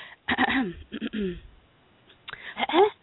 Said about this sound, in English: I must clear my throat before I read this.